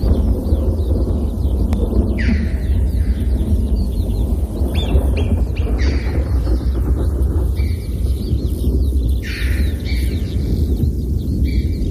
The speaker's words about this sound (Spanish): Y luego también un ave, la choba piquirroja, que se oye por ahí. ¡Chiu, chiu!